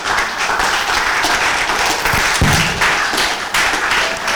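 Sustained audience applause, a dense, steady wash of many hands clapping at once for several seconds, loud and even throughout with no voices standing out.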